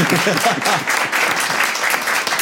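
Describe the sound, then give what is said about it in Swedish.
A crowd applauds the people who sent in a question, a dense wash of many hands clapping at an even, fairly loud level, with faint voices murmuring underneath at the start. “Först bara, kan vi inte ge dem en applåd för att de ska göra det här?”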